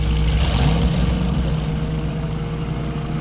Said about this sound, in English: There she is. I don't think they see us. The engine on the Arrow is louder.